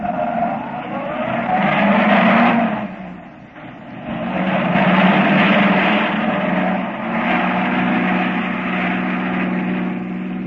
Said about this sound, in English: They pull up with a burning screech of brakes.